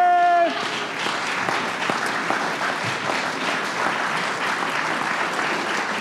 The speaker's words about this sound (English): Now would be a great time to clap for everybody. Yay!